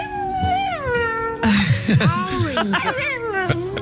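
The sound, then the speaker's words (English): A Chinese dog repeats words after its owner, parrot fashion, making drawn-out, wavering vocal sounds that mimic human speech, starting with a long rising and falling whine, then breaking into quicker, choppier yowl-like syllables. “This is an amazing Chinese dog who repeats things after its owner in a way that I've only ever heard a parrot do.”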